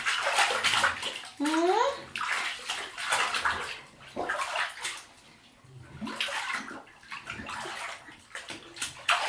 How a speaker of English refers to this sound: Splash, splash, splash. Splash, splash, splash.